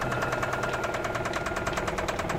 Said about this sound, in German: Hör doch. Das Klopfen, wenn ich Gas gebe. Das Pleuel, was? Ja. Naja, es klingt so.